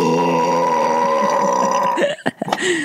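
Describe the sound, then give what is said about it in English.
A long, loud burp rumbles steadily for about two seconds, then breaks into a few short, choppy gulps and grunts at the end. “When you do like a sonic burp, like super loud.”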